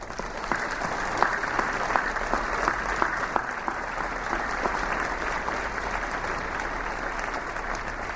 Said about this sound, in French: Je voudrais ici et maintenant que nous les applaudissions tous en signe, en témoignage de reconnaissance.